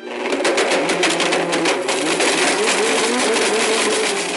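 A blender grinds up an iPhone in the Will It Blend? kitchen-appliance ad campaign: the motor roars steadily at high speed while hard pieces crack and rattle against the blades, the grinding harshest in the first couple of seconds before settling into a smooth whine.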